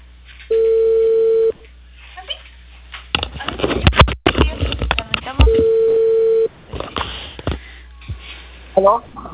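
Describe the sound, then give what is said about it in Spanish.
A telephone ringing tone sounds twice, each a steady one-second electronic tone, separated by several seconds of rustling, clattering noise and muffled voices in between. “teléfono. Ay, espérate. Espera, espérate, sonando.”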